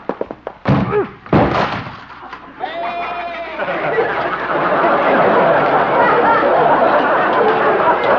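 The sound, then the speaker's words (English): In the radio comedy Honest Harold, Doc's goat slams into a door with a few heavy thuds and a crash, then a wavering cry and a swell of audience laughter and chatter that fills the rest. “Well, at least Doc will have to get a new door. Maybe he'll have to get a new goat.”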